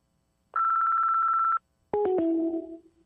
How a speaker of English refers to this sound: Leave a message after the beep. I'll get back to you before you sleep.